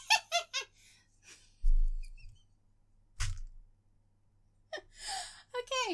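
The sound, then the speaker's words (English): A chair creaks and squeaks in a few brief bursts with low thuds of shifting weight, set between short stretches of someone speaking. “Sorry, squeaky chair.”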